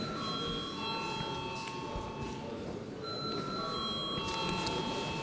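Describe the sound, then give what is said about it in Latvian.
A parliamentary voting bell rings continuously for several seconds, called for before a vote on a bill: a steady electric ringing tone over a low murmur and faint background voices. “Lūdzu zvanu.”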